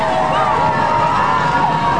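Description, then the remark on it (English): A large homecoming football crowd roars and cheers in a steady, loud wash of many blended voices as the offense has first and goal from the 4-yard line, with players on the Michigan Center sideline encouraging them, holding an even level without pauses for about two seconds. “This big homecoming crowd right underneath us is starting to make a lot of noise.”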